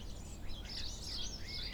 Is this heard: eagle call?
yes